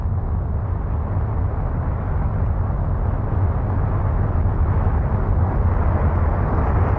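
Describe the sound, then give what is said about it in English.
A continuous, thunderous roar of a spacecraft blasting off, heavy low rumble with crackling texture, steady and loud throughout without any voices. “Let's hear them blast off.”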